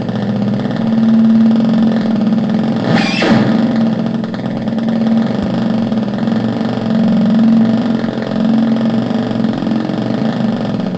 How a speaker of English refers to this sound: Here's the motorcycle at a stoplight. Oh, there we go. It's idling. The motorcycle is idling. Oh, the light turned green.